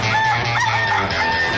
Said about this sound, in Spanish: Ese gallo.